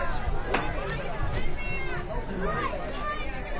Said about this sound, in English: So, and there's a huge crowd here.